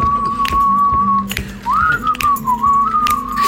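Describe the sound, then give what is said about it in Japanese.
Someone whistles a melody in Odate, Akita Prefecture, Japan, holding a long steady note before sliding into a wavering, rising-and-falling phrase, with a low hum of background noise underneath. “口笛うま。”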